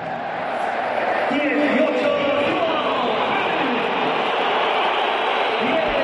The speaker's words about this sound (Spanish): Mira, esta es la pitada a Joao Félix, el sonido que ocurría cuando se ha puesto su foto en el videomarcador.